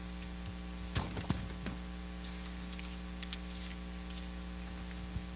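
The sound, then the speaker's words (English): A few quick bursts of paper being handled and rustled at the microphone, followed by scattered faint crinkles, all over a steady low electrical hum with no one speaking. “I apologize. Maybe this paper wasn't the best idea.”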